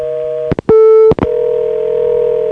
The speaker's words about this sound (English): And then the call goes through and gives me a call waiting beep.